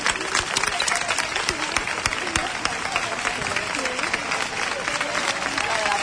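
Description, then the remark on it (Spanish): Sustained unanimous applause from a large crowd in a procession of hairdressing and personal-image associations at the doors of the town hall in Huelva, Spain: dense continuous clapping at steady loudness, with faint voices and shouts mixed into the noise. “Ya escucháis ese aplauso unánime, dándose fuerza.”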